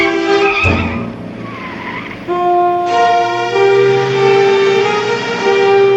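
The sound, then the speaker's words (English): A car's engine roars and revs as it accelerates away in a parking lot, driven off by a woman without shutting the door, with loud, sustained tire squeals and skidding tones ringing out over the motor, with no voices. “She runs and gets in the car. Oh, come on, Martha. Drives off without shutting the door.”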